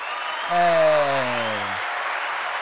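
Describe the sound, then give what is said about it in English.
An applause sound effect played from a button on a show: a steady wash of applause runs throughout, with a drawn-out, falling-pitched voice-like tone sliding downward over it for about a second in the middle. “Wait, where's my applause button?”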